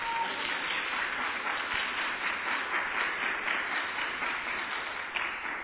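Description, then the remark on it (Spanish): An audience applauds the young prize winners of a contest steadily for several seconds, a dense, even wash of many hands clapping at once, fairly loud and continuous with no voices over it. “Un aplauso a las juventudes ganadoras.”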